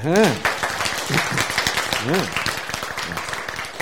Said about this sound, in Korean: 박수.